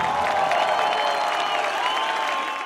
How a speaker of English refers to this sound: Catalans cheering after an independence referendum on Sunday.